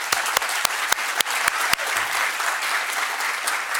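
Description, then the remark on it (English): An audience at a poetry reading breaks into steady applause for a woman's hard work and devotion to poetry, a dense wash of many hands clapping with a few sharp, distinct claps standing out near the start, sustained at a fairly loud level throughout. “But I think we should give her a round of applause for all her hard work and devotion to poetry for so many years.”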